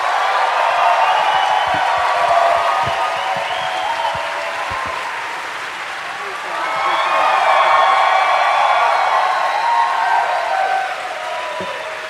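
A crowd in a tavern bursts into sustained applause lasting about twelve seconds, dipping briefly in the middle before swelling loud again, with scattered cheers and whoops mixed into the steady clapping.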